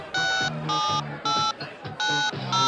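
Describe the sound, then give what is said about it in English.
A telephone ringing tone sounds while a call is placed to a woman: a steady run of short, bright electronic rings separated by brief pauses, fairly loud. “Anyway, I thought I'd phone her now, so wish me luck.”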